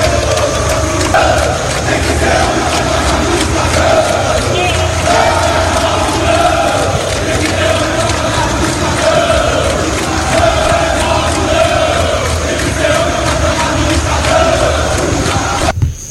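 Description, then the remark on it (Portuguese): A large crowd of football supporters chants protest slogans in unison, a loud, continuous roar of many voices with rhythmic shouted phrases repeating throughout. “O protesto de ontem, Gabriel. Torcedor na bronca. Ordem, grito de protesto. Palavras de ordem.”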